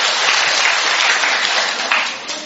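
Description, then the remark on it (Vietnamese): Steady applause from a church audience at a Saturday evening Mass fills the whole stretch, a dense wash of many hands clapping, fairly loud, tapering slightly near the end with no talking over it. “Một tràng pháo tay thưa anh chị em, mời chú về chỗ.”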